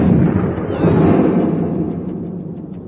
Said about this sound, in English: What happened? I don't know. The cannons fired, but the charges never reached us.